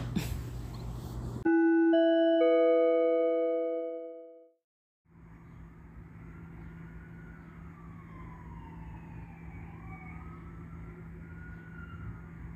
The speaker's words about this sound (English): That is the amplification of sirens as I begin to record. It's Wednesday, May 26, 2021. It's 5:24 p.m.